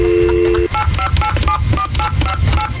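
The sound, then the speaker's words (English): A man dials a telephone: a steady dial tone gives way to a quick series of touch-tone beeps as buttons are pressed one after another in a brisk rhythm, with a low rumbling background underneath. “Now this here's a man dialing a phone.”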